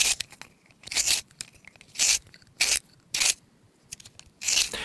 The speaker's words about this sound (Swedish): Men tänk på en pennvässa, det är väl aldrig man hör någon vässa en penna numera.